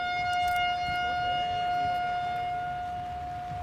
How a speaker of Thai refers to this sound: ท่านผู้ชมคะเสียงแตรที่ท่านผู้ชมได้ยินในขณะนี้นะคะคือเสียงเพลงนอนของพลแตรกองทหารเกียรติยศเพื่อไว้อาลัยแด่วีรชนผู้กล้าที่ได้ทิ้งร่างไว้เพื่อปกป้องอธิปไตยของชาติณพื้นที่แห่งนี้ค่ะ